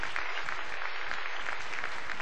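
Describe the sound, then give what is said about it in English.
Steady audience applause during a political speech, a dense crackle of many hands clapping at an even, sustained level with no voices breaking through. “Well, don't applaud too loud yet.”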